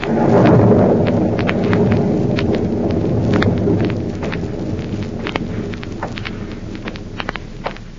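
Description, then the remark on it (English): On a stormy night at an old house in Illinois, the former hideout of Professor Horn in the radio drama Counter Spy, a heavy rumble of thunder rolls in loud at the start. It then fades into steady rain with scattered crackling drops and a low wind, with no voices present. “An eerie, stormy night at the former hideout of Professor Horn in Illinois.”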